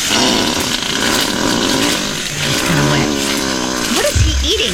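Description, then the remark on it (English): A long, loud, buzzy gorilla fart rumbles, with sputtering bursts and a deep, flapping blast near the end. “Let's compare the gorilla and the deer. Gorilla?”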